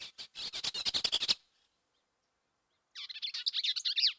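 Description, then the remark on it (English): A Bell's Vireo sings a burry, chattering song in two bursts of rapid buzzy notes separated by a short silence, clear with no talking, in early successional cottonwood-willow habitat in Vermilion along the Missouri River. “And they have kind of a burry, kind of chattery song, but I really like it.”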